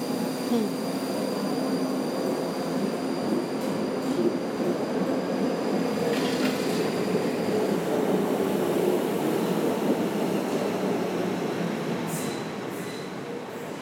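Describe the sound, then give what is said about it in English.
A train rolls through a train station at 6 a.m. on the 20th of August with a steady, low rumble that fills the whole stretch, under a thin metallic whine and brief high squeals of wheels near the end. “No, it's the 20th of August, 6 o'clock a.m. at the train station.”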